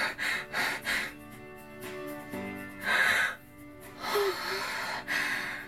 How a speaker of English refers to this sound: Running after her, you find her nearby, crunched down and panting vigorously.